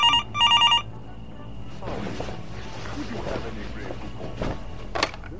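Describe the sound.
A telephone rings in two quick, bright electronic bursts, loud, then stops as murmuring voices and soft room noise take over. It is a 1993 call from a New York Police Department detective.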